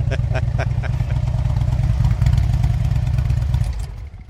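A motorcycle fitted with loud aftermarket exhaust pipes idles in the woods and is revved a little, a deep throbbing low end with rapid exhaust pulses and some clattery ticking on top, holding level before easing off at the end.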